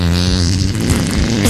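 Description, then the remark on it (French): A loud, buzzing fake fart made with the mouth for a fake-fart contest, a progressive one with a double ending: a continuous low rasp with rich harmonics that starts like a mosquito and sputters unevenly for about a second and a half, with no talking over it. “le plus beau fake prout avec la bouche repartira avec une PS3”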